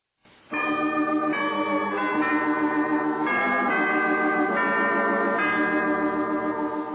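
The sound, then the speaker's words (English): A peal of church bells from a 1947 recording rings continuously, overlapping tones shifting in steady succession, full and loud with a slightly muffled, old-recording quality and no voices. “And come Thursday morning, the bells will be ringing in all the churches”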